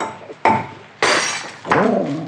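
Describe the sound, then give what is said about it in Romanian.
The neck of a glass bottle holding papers is struck and broken, so the papers can be taken out without breaking the whole bottle, with three sharp impacts, each a bright clink with a short ringing decay, spaced roughly half a second apart. “Să-i spargem numai gâtul. Așa o să le putem scoate fără să stricăm toată sticla.”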